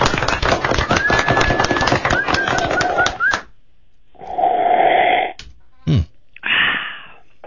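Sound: slurping a drink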